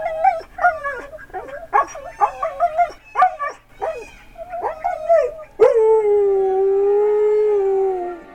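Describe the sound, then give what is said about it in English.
A loud dog named Lakota, coaxed with a barking hand puppet, lets out a rapid run of yipping, whimpering vocalizations, then breaks into one long, steady howl that slowly slides lower in pitch and holds to the end. “After food and drink, she coaxes Lakota to howl for us using a barking hand puppet.”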